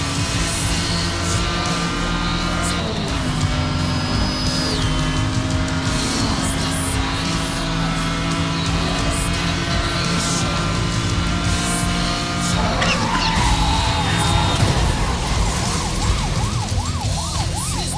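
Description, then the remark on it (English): Video game car racing with a steady roaring engine drone, broken by a burst of skidding and a crash as the player's car crashes and respawns right into another crash, while a wavering police siren wails toward the end. No one speaks. “I crashed, and then it respawned me right into another crash.”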